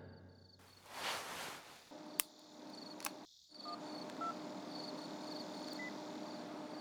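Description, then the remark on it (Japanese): A handful of short, quiet keypad beeps as a phone number is dialed at night before arriving at the school, spaced unevenly over a steady hum of night insects, with a couple of sharp clicks just before. “俺は学園に着く前にあいつに電話した。”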